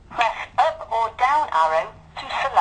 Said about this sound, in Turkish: Bak benim gibi eski bir zil bu. Bak şimdi sustu ya hocam.